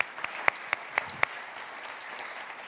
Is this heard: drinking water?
no